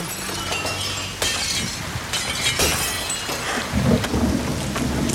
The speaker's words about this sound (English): Stood in the dark in the pouring rain, he stares at the sumptuous cakes. Desperate, he smashes the window with his hand.